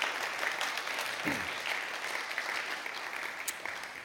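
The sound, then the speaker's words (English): An audience applauds a man who has just spoken, a dense, steady wash of many hands clapping at once, sustained for several seconds without a break. “There, give him a clap.”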